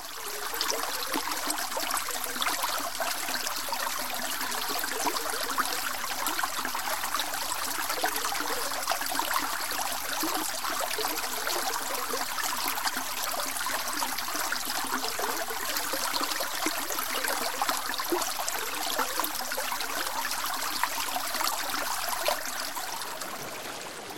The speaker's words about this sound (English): Droplets gather, forming a stream. A hypnotic swirl, gentle at first, but gaining strength as gravity draws more tributaries together.